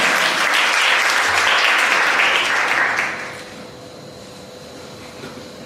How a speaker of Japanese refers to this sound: 大きな拍手、卒業受け取るのにも大きな拍手。